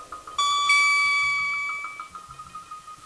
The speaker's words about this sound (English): Don't forget to turn the page every time you hear the chime.